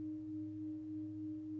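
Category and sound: signal or alarm, gong ringing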